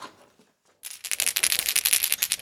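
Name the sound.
dice rattling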